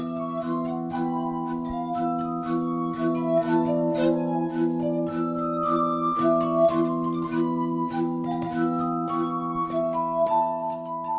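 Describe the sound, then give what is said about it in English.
Glass harp of almost 60 glasses, from tiny shot glasses to deep goblets in three rows on a sloping table, playing a piano mazurka adapted for glass: sustained ringing tones from fingers rubbing rims in a slow melody over held chords, soft percussive taps marking a regular beat; clear, no voices. “Especially in this piano mazurka by 18th century composer Karol Szymanowski, which Anna and Arik adapted for glass.”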